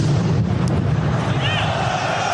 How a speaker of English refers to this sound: The sound of a massive explosion unleashed to a global TV audience watching France play Germany left nobody in any doubt.